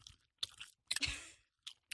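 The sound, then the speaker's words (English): Chewing of Sour Patch sour gummy candy, with several wet, squishy bites and a crunchy burst in the middle, heard alone with no talking. “I'm going to do a live eating on the podcast.”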